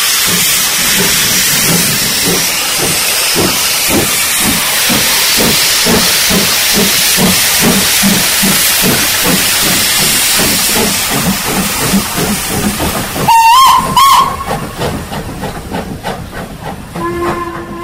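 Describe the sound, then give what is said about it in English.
A steam locomotive, its safety valves gently opening, pulls away with loud, steady rhythmic chuffing over a constant roar of hissing steam, then a brief, shrill whistle blast sounds near the end. “We have the whistle now. The drivers are ready, and she's away.”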